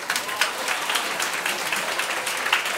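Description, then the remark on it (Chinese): A church audience applauds a newly engaged couple, many hands clapping in a dense, continuous patter with small bursts of louder claps, no voices standing out. “我们为他们鼓掌一下。”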